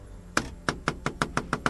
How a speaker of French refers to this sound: Frappe à la porte.